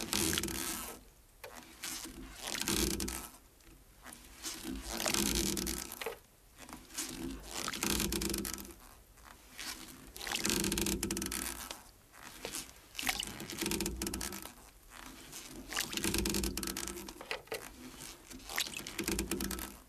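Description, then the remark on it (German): Oars of rowing boats, recorded by sound maker Herbert Gießer, dip and pull through water in a steady rhythm. Each stroke is a splashy swish followed by trickling and dripping, repeating about every two seconds with no voices. “Das sind Aufnahmen von Ruderbooten des Geräuschemachers Herbert Gießer.”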